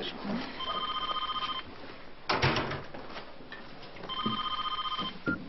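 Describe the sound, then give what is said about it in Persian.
A telephone rings in two bursts of rapid trilling electronic tones, separated by a pause with a brief clatter, heard in a room with faint background noise. “ببخشید من تلفن رو جواب بدم.”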